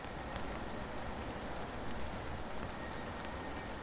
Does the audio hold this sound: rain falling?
yes